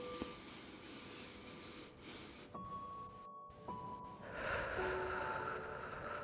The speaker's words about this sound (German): Und dann atmet mal tief in diese Stelle hinein, nochmal durch die Nase ein.